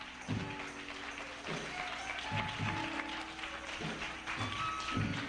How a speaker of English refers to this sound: Let's give him a big hand clap as you take your seats.